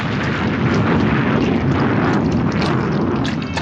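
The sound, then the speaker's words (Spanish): A massive explosion roars loudly and steadily as a cannon shot sets off the ammunition aboard a launch at sea, blowing the boat to splinters; a dense, rumbling, overwhelming blast fills the whole stretch without fading, with no voices present. “Se escucha una formidable explosión. El disparo ha hecho estallar las balas de la lancha, que salta hecha astillas.”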